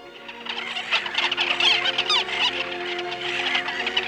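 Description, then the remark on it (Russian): A flock of birds crying out together as they rise into the air, shrill squealing calls overlapping in a dense, continuous clamor that stays fairly loud for several seconds, with no voices. “И птицы с криком поднялись на воздух.”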